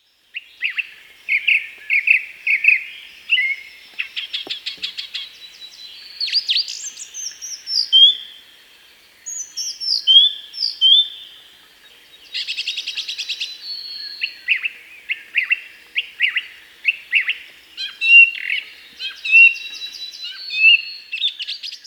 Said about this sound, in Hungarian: Végezetül hallgassuk meg a fűr pitypalattyolását egy énekes rigó tolmácsolásában. A pitypalattyolást a madár négyszer ismétli a felvétel vége felé.